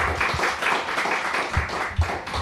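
Audience applause: a steady wash of many hands clapping together, dense and fairly loud, with a few sharper claps standing out, and no voices over it.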